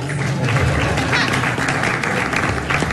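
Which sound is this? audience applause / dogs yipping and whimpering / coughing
audience applause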